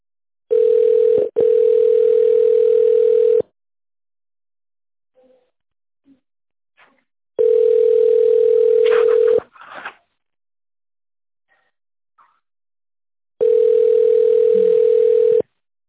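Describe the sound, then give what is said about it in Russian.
A telephone ringing tone heard while waiting on hold after an automated phone menu: three long, steady mid-pitched beeps, each lasting about three seconds, separated by silent pauses. Faint small clicks fall in the gaps. “Или дождитесь ответа.”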